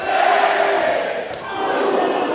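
A large wrestling crowd roars and shouts continuously during a bout as babyfaces and heels trade blows, many voices blending into a loud, sustained wash of cries and cheers, dipping briefly before swelling again.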